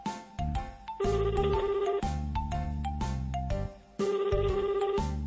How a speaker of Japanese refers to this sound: はい、現在電話で必死で呼び出し中でございます。